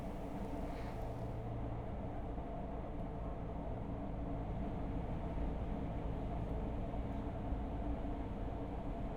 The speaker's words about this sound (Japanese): 電車の音もとっても気持ちいいね。ガタンゴトンって。